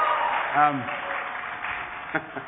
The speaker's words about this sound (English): You can cheer. It's all right. This is a happy occasion. It's allowed.